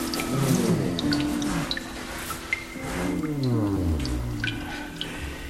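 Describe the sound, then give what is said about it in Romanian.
Water drips steadily inside an echoing cave, with scattered plinks over a low, rumbling ambient hum and faint watery gurgles, no voices present. “Aceasta este grota.”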